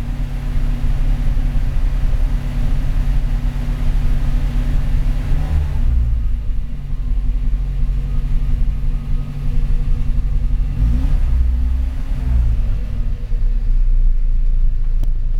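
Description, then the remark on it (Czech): A car engine rumbles steadily, its deep drone dipping and rising in pitch a couple of times as it revs, with no voices over it. “Nerad zničil to auto.”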